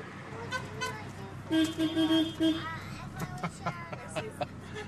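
A car horn beeps several times in quick, loud bursts, a bright, buzzy tone repeated in a short rhythm, honking at a driver blocking the way. Further fainter honks or traffic sounds follow over a steady background rumble.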